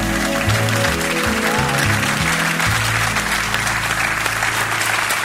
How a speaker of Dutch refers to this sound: Als jij zo'n heel beschaafd klapje hebt, klap je altijd zo? Of klap je als je eigenlijk niet enthousiast bent? Wij klappen nu. Waarom klappen we eigenlijk?